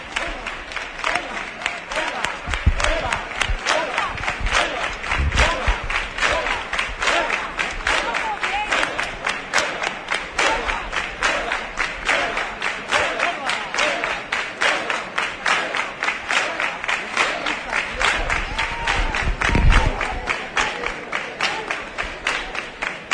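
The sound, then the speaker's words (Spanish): A large crowd at a street demonstration for Huelva, marching toward the Plaza de las Monjas, claps steadily and rhythmically outdoors, dense overlapping hand claps filling the whole stretch, with a murmur of voices and occasional low thumps underneath. “Bueno, pues ya veis, al final se ha conseguido esas palmas por Huelva.”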